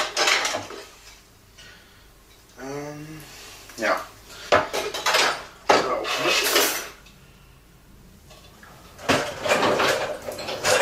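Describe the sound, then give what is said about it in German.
Dishes and cutlery clatter and clink as bowls are pulled from a dishwasher for making potato goulash, with several sharp bursts of clanking separated by pauses, plus a brief rising squeak and a single short spoken word. “Ach Moment, ich habe Spülmaschine. Müsste sauber sein.”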